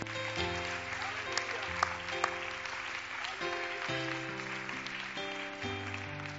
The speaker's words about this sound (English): In Jesus' name, can we just clap our hands and thank him for what he has done and what he will do tonight.